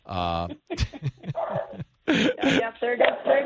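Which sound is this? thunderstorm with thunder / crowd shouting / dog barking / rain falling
dog barking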